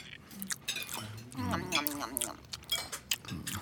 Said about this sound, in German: Hört ihr das Schmatzen? Jetzt sitzen alle gemeinsam am Tisch. Ob ihnen die verunglückte Geburtstagstorte wohl trotzdem schmeckt?